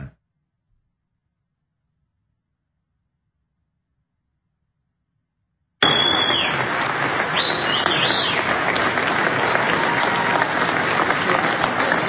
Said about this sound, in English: Large crowd, standing ovation, downtown Chicago.